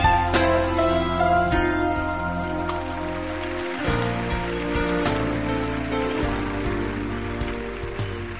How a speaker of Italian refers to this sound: Senti che fuori piove. Che bello.